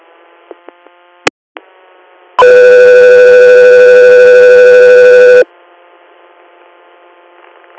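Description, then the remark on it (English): A loud, steady dispatch alert tone for an air medical crew holds for about three seconds, preceded by a few sharp radio clicks and keying noises over a low, hissy background. No one speaks. “Stand by for tones.”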